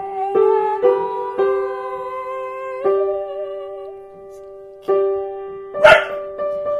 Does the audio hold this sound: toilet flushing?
no